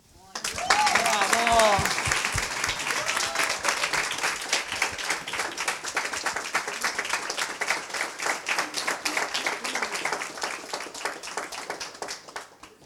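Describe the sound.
An audience breaks into sustained applause, a dense crackle of many hands clapping steadily for over ten seconds, with a brief voice heard at the start before the clapping takes over.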